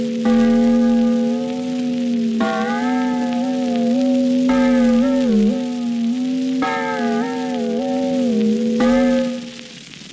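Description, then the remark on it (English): Out-of-tune church bells of the little New England village of Framingham ring the curfew loudly in repeated strokes about every two seconds, each tone sustained and wavering slightly in pitch, with no voices. “The bells in the little New England village of Framingham ring out.”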